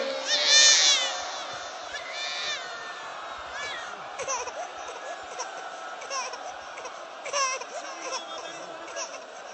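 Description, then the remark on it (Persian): A baby cries in repeated high-pitched wails, loudest at the start and then in shorter bursts, over a constant murmur of a large crowd. “آی این داره میخونه با زبون خودش داره گریه میکنه و حسن میده.”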